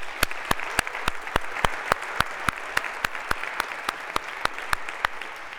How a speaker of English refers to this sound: Round of applause again for the staff.